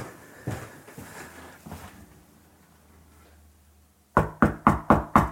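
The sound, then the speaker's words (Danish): Five quick, loud knocks on a real door in an even rhythm, arriving after a few soft thuds of movement and a short quiet pause. “Jeg var lige ud og finder en lyd af en rigtig dør.”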